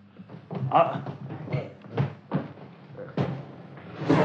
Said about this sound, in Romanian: Iaca, au zăvorât și ușa după noi.